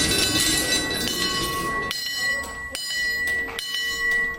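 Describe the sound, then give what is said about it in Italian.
Kinetic sculptures by Tanguely, installed in the tall former barn of the Ausstellungshaus in a sculpture garden, make loud, dense metallic clattering and rattling that gives way to sustained, high-pitched bell tinkling that rings and overlaps, with sharp clanks breaking in at intervals. No voices. “al centro del giardino fitto di sculture di Sperry, il grande e alto spazio ha consentito l'installazione di una serie di sculture cinetiche di Tanguely che sferragliano e fanno risuonare tintinnii di campanelli.”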